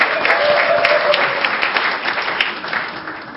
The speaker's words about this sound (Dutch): Stadskanaal? Oh, alsjeblieft. Wat zeggen we, Delfzijlers? Stadskanaal ook? Ja. Applaus voor Stadskanaal.